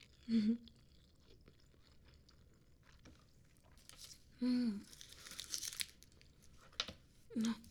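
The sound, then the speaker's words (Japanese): Soft, moist chewing of a nori-wrapped rice ball with crinkly, crackling bursts in the middle, broken up by three short hummed voice sounds. “海苔だらけ。おにぎりごちそうさまでした。”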